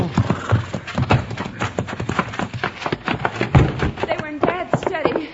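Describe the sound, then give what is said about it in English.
Horse hooves clip-clop steadily as the horse is brought to a halt, a brisk run of sharp knocks that carries on throughout, with a man's voice calling out briefly near the end. “Who, Buckshot? Whoa, whoa, whoa.”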